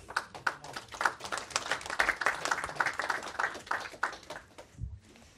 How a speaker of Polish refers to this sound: Zapraszam raz jeszcze na scenę panów dyrektorów i zapraszam naszego laureata. Prosimy o brawa.